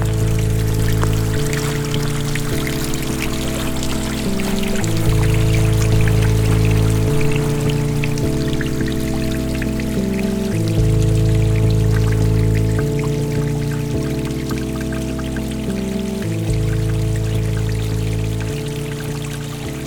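Gentle water lapping and trickling continuously in a damp wood, a soft wash of small splashes mixed with a low, sustained musical drone that shifts chords every few seconds.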